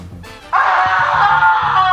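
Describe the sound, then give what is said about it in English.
A man lets out a loud, sustained scream that starts abruptly and holds at full strength for over a second, raw and strained, with no talking. “Man screams. Whoa, man screams.”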